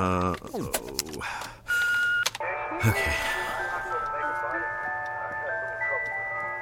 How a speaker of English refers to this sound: Okay. Wait, I know this song. It's so annoying. It plays over and over and over again because it's the ice cream truck. The ice cream truck? Yes, it used to come through my neighborhood every day after school.